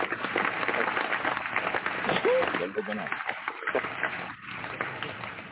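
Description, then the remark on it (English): A clapping sound effect: a dense, continuous patter of clapping like a burst of applause, with voices mixed in underneath; it stays fairly loud and steady, easing slightly toward the end. “Oh, let's see if the clap coming in. There we go.”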